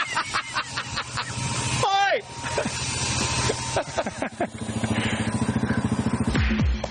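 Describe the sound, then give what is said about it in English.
A motorbike engine putters and chugs outside a gate in a steady pulsing rhythm, rising into a brief rev near the end, with muffled voices and outdoor clatter mixed in. “there is a motorbike right out there, like, literally outside the gate”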